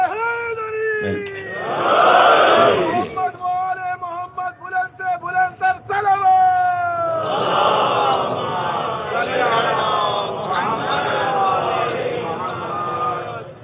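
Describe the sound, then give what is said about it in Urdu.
A large crowd loudly chants a religious slogan in unison, voices rising and falling in rhythmic bursts, with shouted calls and answering responses that fill the space. “دیکھیں یہ تو اہانت ہو جاتی ہے تھوڑی سی، کہ یا تو نعرے سے رخصت لیں یا پھر ایسا لگائیں کہ شان کے مطابق.”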